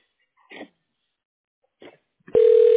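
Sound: telephone ringing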